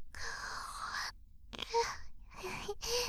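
A long, breathy yawn drawn out for about a second, followed after a pause by a few shorter airy, softly voiced exhales, fairly loud with no talking.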